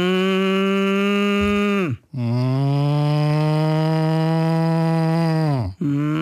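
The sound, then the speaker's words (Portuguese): Two people on a radio show imitate a cow, drawing out long, loud, nasal moos one after another, each sustained for several seconds with a brief breath between them and a third starting at the end. “eu e o … começámos aqui a imitar vacas. Fizemos duas boas vacas.”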